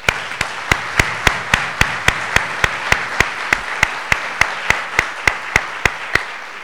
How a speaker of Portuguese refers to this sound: O Jorge Werten está aí, meu Deus, foi o representante da Unesco no Brasil, que eu citei, não sei se ele viu que eu citei ele. Então eu vou pedir para o Jorge uma salva de palmas.